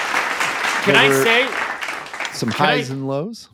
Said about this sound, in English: All right. Well, a little smattering of applause